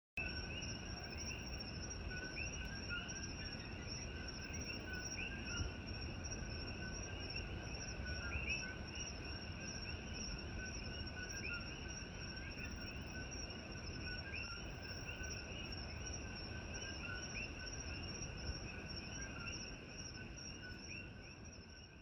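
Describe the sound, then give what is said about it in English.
A dense chorus of invasive Koki frogs, 1 to 2 inches long, calling nonstop on the Big Island's East Coast, their calls up to 100 decibels, overlapping high-pitched chirps merging into a steady, shrill drone over a low background rumble, with no voices. “Let's check out these invasive frogs.”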